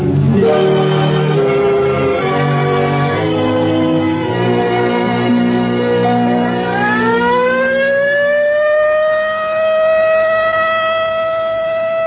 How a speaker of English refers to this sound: There it is, the practice alert.